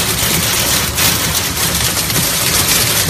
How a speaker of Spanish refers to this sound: Es el sonido de la espectacular granizada que en la tarde de ayer jueves caía en la comarca del Bajo Cinca, en Huesca. Provocaba importantes desperfectos en vehículos, también en huertos y además en fincas rústicas.